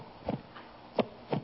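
Muffled, low thumps of a good, strong heartbeat heard through a stethoscope placed on the chest, three soft beats spaced unevenly over a faint background hum, with no talking.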